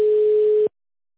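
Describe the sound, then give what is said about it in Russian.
A single steady telephone ringback tone, a clean mid-pitched electronic beep lasting under a second, then silence as a call to a company's phone line connects after an automated greeting. “Мы не получили действительный ответ. Подождите, идет соединение.”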